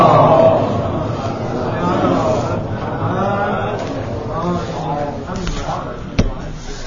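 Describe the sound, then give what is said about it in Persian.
An audience recites salawat in unison, many voices chanting together loudly and steadily for several seconds, with a brief sharp knock just before the end. “خب حالا اینم بذار بعدن، یه صلواتی بفرستیم بحثمون شد.”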